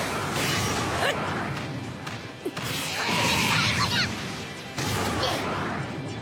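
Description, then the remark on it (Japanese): A barrage of crunchy video game punch impacts and whooshes from a special attack called "Motor Special Punch", loud and dense, layered with chaotic effects and bursts that swell and break over several seconds, with a brief voice mixed in. “モータースペシャルパンチ。”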